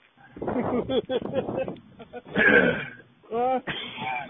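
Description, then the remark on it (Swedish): Harsh throat clearing and coughing come in a run of rough bursts, broken by short pauses, with some voiced, strained sounds mixed in. “Nu med dina jävla hosta saker.”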